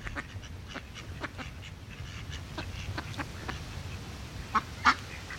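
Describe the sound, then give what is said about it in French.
Ducks on the ponds of the hill of Hampstead quack repeatedly over a low, steady outdoor rumble, with two louder quacks near the end; no one speaks. “Est-ce que la famille Karl Marx, quand elle venait sur cette colline de Hampstead, entendait ces canards dans ces plans d'eau ?”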